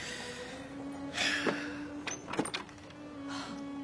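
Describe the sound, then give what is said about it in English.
Keys jangle and clink in a few irregular bursts as someone fumbles for a door key, over a faint steady background hum. “what are you doing? Looking for a door key?”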